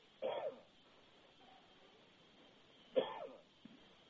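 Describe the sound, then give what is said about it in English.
Two short, faint sneezes in the background, a few seconds apart, each a quick sharp burst over low room noise, with no talking. “God bless you in the background.”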